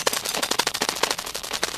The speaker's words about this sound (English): This, the professor announced, is the sound of a cat's brain while asleep. My God! Schenk almost fell out of his seat. This is the brain during sleep? Making these really rapid, high-pitched, multiple sounds.